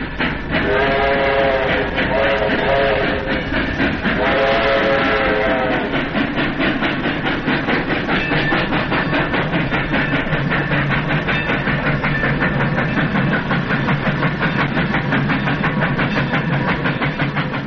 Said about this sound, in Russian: Лучше всего на тех нескорых поездах, что так обычны в России.